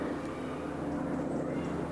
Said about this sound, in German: Hubschrauber. Euch schön drüber fliegen und nicht wiederkommen. Wenn es ein Hubschrauber und nicht ein Motorflugzeug ist, aber wie auch immer.